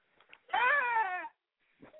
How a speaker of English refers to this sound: Nah, this is from my son's clown costume. The little horn and shit. And I was driving my wife crazy yesterday with that shit, son.